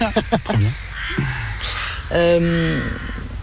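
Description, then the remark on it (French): Several harsh, drawn-out caws from birds passing in the sky overhead ring out fairly loud, the longest one near the end, with a short burst of voice-like sound at the start. “Salut les oiseaux.”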